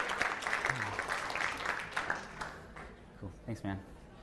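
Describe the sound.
An audience at FinCon 2011 applauds in a dense, steady wash of clapping that fades over a couple of seconds, and then a man's voice starts speaking as the clapping dies away.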